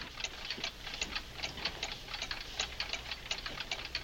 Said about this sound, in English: Oh, you mean that funny noise that sounds like clocks ticking? Yes. I don't hear it. Oh, I can hear it. What? And it sounds as if it's coming from this closet.